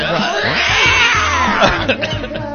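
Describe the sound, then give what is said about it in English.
A loud, warbling wail like a caterwauling cat rises and bends in pitch, sustained for a few seconds over dense music, sounding like a voice imitating a yowling cat within a song. “What's happening? Is that like a cat?”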